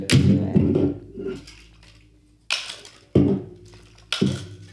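A drink container is cracked open: crinkly handling noises, then three sharp cracking pops spaced about a second apart, each dying away quickly, with no voices.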